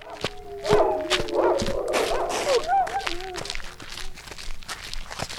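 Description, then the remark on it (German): Dogs bark and yelp in a quick, excited flurry of overlapping calls, with scuffling steps and rustling throughout and a few higher whining tones trailing off. “Die Hunde erkennen Herr … an der Stimme.”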